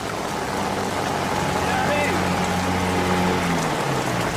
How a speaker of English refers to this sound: But this is called the flooded forest for a reason. The rain here can be torrential, and although storms normally pass quickly, this one is clearly not a normal storm.